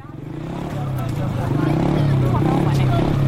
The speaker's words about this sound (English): A boisterous crowd gathers around a battered old motorbike in South Sudan's largest camp for displaced people, near the battle-scarred northern town of Bentiu. Then, at the press of a button, this two-wheeled radio station bursts into life.